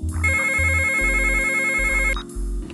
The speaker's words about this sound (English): get the phone!